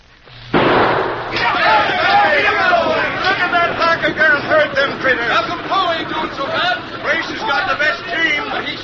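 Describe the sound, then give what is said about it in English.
A single sharp starting gunshot cracks out to start a stagecoach race to Oilville, followed at once by a loud, excited crowd shouting and chattering over a steady rumble that continues to the end. “Now, when you hear the gunshot, let him roll.”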